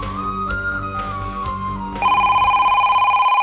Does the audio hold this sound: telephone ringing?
yes